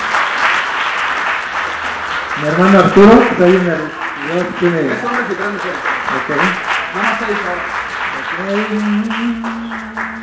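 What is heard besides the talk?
audience applause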